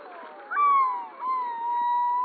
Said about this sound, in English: We're hearing a yellow-billed loon. calling on Alaska's North Slope.